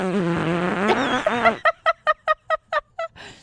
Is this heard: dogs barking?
no